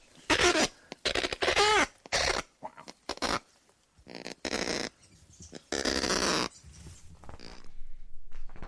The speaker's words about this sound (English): But it's, when you hear the female response, you mightn't think that she's that impressed by it. Okay. This is the kakapo female sound.